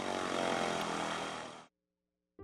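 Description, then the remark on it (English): A small propeller airplane, used for transport to airstrips in Aquia, drones loudly with a steady, buzzing engine roar that cuts off abruptly, then briefly returns at the end. “We can get to any airstrip in Aquia in less than 30 minutes with the airplane.”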